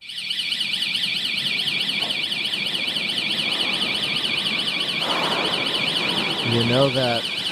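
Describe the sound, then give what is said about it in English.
A New York City subway station emergency exit door alarm blares without pause, a loud, high-pitched warbling tone that wavers rapidly up and down over a murmur of background noise. “Some of your responses, and this comes up a lot, you know that emergency exit door in the subway stations?”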